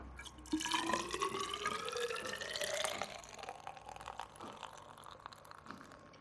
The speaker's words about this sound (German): Und wir wollen wissen, wie viel Alkohol schon in diesem seit ungefähr 6 Tagen vor sich hin brauenden Bier ist. Jetzt füllen wir wieder was rein von dem Bier in den Messzylinder.